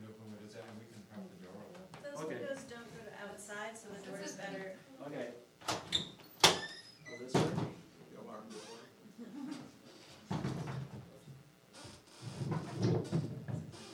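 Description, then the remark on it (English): A door is opened with a few sharp clunks and a brief scraping slide, while people talk in the background before and after. “Those windows don't go to outside, so the door is better.”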